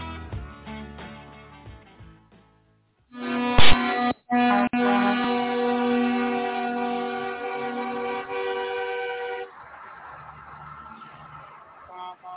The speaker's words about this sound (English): Right now, you're hearing horns being honked on the Beltway in Washington, D.C., as videos coming across now on all the major websites, CNN, Fox News, New York Times, and NBC News